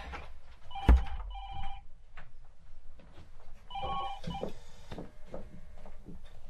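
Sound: telephone ringing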